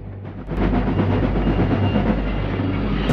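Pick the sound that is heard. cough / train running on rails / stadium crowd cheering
train running on rails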